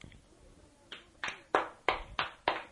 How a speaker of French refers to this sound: Applaudissez tous nos auditeurs.